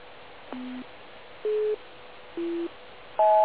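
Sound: telephone busy tone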